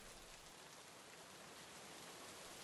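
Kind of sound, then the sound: nature, rain falling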